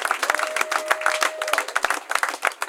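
An audience breaks into sustained applause, dense overlapping claps at a steady loud level with a few sharper peaks, and a faint steady tone runs beneath for a moment.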